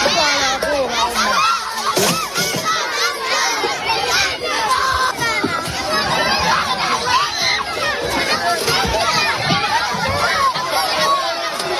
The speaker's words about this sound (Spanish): En los pocos repartos de comida, la gente, los niños también, se amontonan para poder conseguir algo.